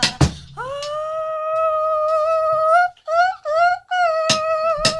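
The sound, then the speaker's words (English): A person howls like a wolf, one long rising sustained note followed by two shorter wavering howls, sung clear in a smooth, almost operatic voice. “That was my howl.”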